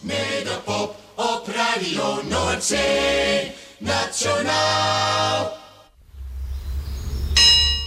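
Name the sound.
church bells ringing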